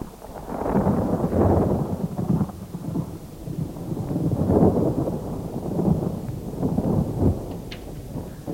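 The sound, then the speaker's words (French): A thunderstorm with deep, rolling thunder rumbling in long swells, rising and fading over several seconds, with a steady wash of rain beneath. No voices. “Un jour qu'il faisait de l'orage, ils décidèrent de visiter la maison de campagne de fond en comble.”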